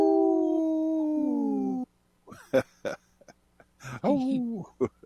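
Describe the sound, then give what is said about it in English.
A single long, wolf-like howl rings out for about two seconds, sliding slowly downward in pitch, then breaks off into voices speaking in quick, uneven bursts. “Pickles, howling, there's all these things that kind of just make me chuckle.”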